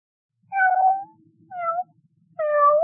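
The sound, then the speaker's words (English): Three distinct cat meows, fairly loud, each a drawn-out tonal cry separated by short pauses, with the last one cut off at the end and no talking. “Can you tell which of these cats is not well?”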